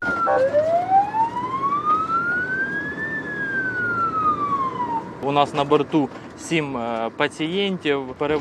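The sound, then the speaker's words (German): A loud ambulance siren wails in one long rising and falling sweep over steady engine and road rumble, recorded on board a moving Doctors Without Borders ambulance carrying seven patients from Sloviansk to Dnipro; a man then starts talking over the noise. “von seinem aktuellen Alltag direkt an Bord von einem Krankenwagen.”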